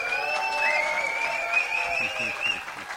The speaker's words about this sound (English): Now, by show of applause for our studio audience, how many of you participated in the trades